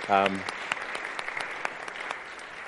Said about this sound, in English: Ask you to give her a hand of applause.